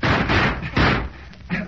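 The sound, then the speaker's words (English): Loud thuds of a shack door being banged, four heavy blows in an uneven rhythm with short pauses between them. “Let's run for the door.”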